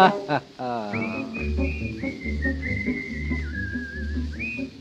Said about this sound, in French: Alors quittant la ville, le petit rat des champs s'en retourna tranquille en sifflotant.